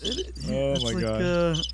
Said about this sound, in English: Make a noise. Crickets. Okay, that's interesting. I got to program those because that's actually pretty funny.